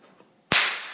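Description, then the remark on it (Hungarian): One sharp, loud hand clap cracks out of near silence halfway through, its bright snap trailing off in a brief fading ring, given as the cue in a game where one person claps and another counts. No voices are heard. “Én tapsolok, akkor te számolsz.”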